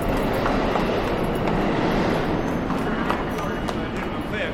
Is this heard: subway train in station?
yes